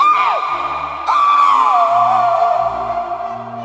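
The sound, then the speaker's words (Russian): A woman's anguished scream rings out loud through frosty silence, a brief cry that breaks off, then a long wavering wail that slowly sinks in pitch over a low droning background. “Затем морозную тишину пронизал надрывный крик.”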